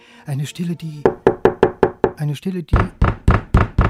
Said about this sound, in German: klopft es in Baden-Baden an Turgenjews Tür